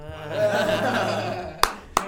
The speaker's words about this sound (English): Wow. Don't clap that.